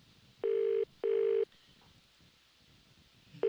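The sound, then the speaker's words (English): A foreign-style telephone ringback tone of an international call to a bar: two short steady buzzing tones in quick succession, a pause, then the pattern starting again, heard clearly over a faint background hiss. “That's one ringy dingy. Exotic ring.”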